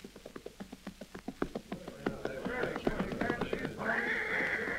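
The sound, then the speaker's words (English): Rapid hoofbeats of a western pony clatter in a steady rhythm as it reaches a relay station where the rider changes horses, then a horse lets out a loud, shrill whinny with a rough, breathy edge as the galloping fades. “Finally, looming up ahead is the first relay station where he is to change horses.”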